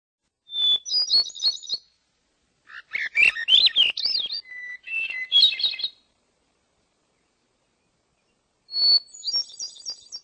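A bird sings three bright, high-pitched phrases of rapid warbling notes and trills, separated by short silences, clear with no voices present.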